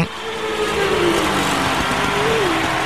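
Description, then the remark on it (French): Race car engines run steadily in the paddocks at São Paulo, a dense mechanical roar with pitch rising and falling as motors rev, filling the whole stretch without any speech. “Excuse-moi 5 minutes là, mais je voudrais bien entendre un peu des moteurs tourner.”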